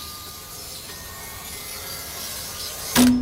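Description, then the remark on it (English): A steady, gritty scraping hiss runs with a faint thin whine as a cutting machine scores mirror glass, slicing giant sheets of reflective glass into little pieces, ending in a sudden loud, sharp burst of noise near the end. “You see here, this is the machine that cuts the mirror.”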